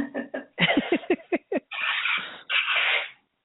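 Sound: nose blowing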